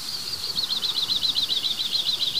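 A crested tit gives a rapid, steady series of high, thin trilling notes, repeating evenly for a couple of seconds, clear over a quiet background.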